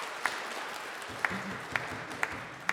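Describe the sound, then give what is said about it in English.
A church audience applauds the reader of the day's Gospel during a service, in a steady, dense patter of many hands, with a few sharper individual claps standing out at roughly regular intervals. Moderately loud, with no voices. “So I think a show of appreciation for the reading of the Gospel today.”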